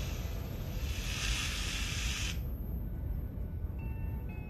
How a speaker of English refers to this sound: Oh, he's spraying it on a banana.